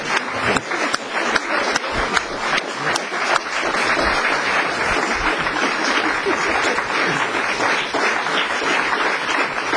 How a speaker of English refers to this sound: Standing up clapping, I'm going to bring today's proceedings to a close. You've been a thoughtful audience.